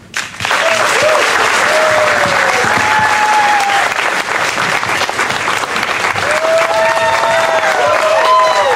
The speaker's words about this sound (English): As you can hear, the crowd begins to go wild.